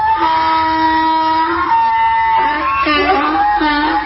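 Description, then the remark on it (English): A donkey bray used as a breaking-news sound effect: loud for about four seconds, long, strained, reedy tones that hold steady at first, then waver up and down in rough see-sawing bursts, with no one talking. “When news breaks, the donkey brays.”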